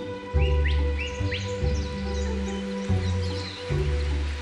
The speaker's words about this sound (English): their names are as colourful as their plumage. The resplendent Quetzal, the long-tailed manakin, and the black-faced solitaire. Certainly when it comes to dressing up and advertising your wares, you cannot beat the birds of the rainforests.